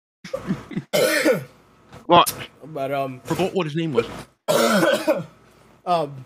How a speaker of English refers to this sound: I can't breathe right now. You just made me have a. You had a cough fit right now, bro.